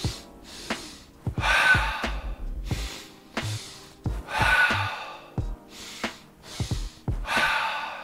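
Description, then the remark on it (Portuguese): Three rounds of deliberate physiological-sigh breathing to release stress. Each is a sharp double inhale through the nose, about 80% of the air on the first and 20% on the second, then a long, audible sigh out through the wide-open mouth. The rounds are evenly repeated with no talking. “Inspira pelo nariz, 80% na primeira inspiração, os outros 20% na segunda inspiração, abrindo bem os alvéolos pulmonares, liberando mais CO2 e você abre bem a boca, soltando todo o CO2 do corpo, descomprimindo a pressão no seu sistema nervoso,”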